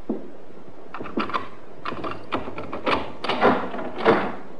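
key unlocking door

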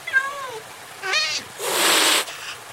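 cat meowing

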